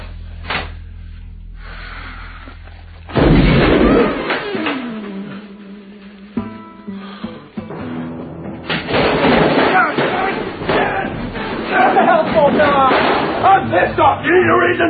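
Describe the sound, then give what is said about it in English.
Sharp, loud bangs like gunfire crack out, a sudden heavy burst followed later by a dense run of rapid impacts, forceful, mixed with other clatter and voices. “I thought I heard gunfire.”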